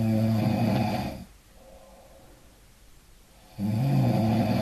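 Two loud, rumbling snores, each a rough buzzing drone, separated by a quiet breathy pause of about two seconds.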